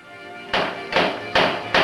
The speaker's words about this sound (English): uses his gun butt to hammer a small bell onto the front door of the house.